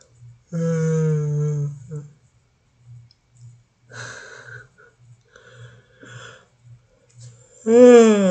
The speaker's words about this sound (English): Forgive the yawn.